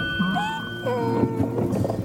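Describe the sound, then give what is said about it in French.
A person imitates a donkey braying: a strained, wavering vocal cry that slides up and down in pitch for about two seconds, fairly loud with a rough, hoarse edge. “Le vrai bruit de l'âne. Non, c'était quelqu'un qui l'a fait.”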